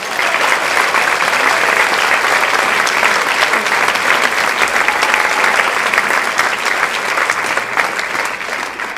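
Sustained audience applause before a concert, thanking a man for his help and generosity, a dense, steady wash of many hands clapping at an even loudness for about nine seconds, with no voices standing out.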